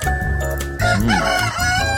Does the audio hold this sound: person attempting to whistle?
no